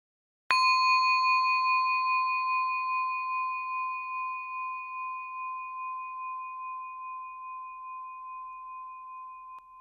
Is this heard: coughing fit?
no